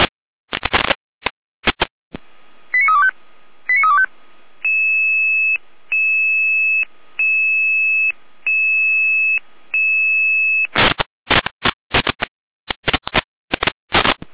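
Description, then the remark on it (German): Fire brigade radio alert tones alerting forest fire unit 1 of Saalfeld-Rudelstadt to a vegetation fire at Braunsdorf toward Unterwörbach, at 13:49. Crackling data bursts, a pair of quick chirps, then six loud, evenly spaced electronic beeps with a steady two-note pitch, then more harsh bursts. No one speaks. “Alarmierung für den Waldbrandzug 1 Saalfeld-Rudelstadt.”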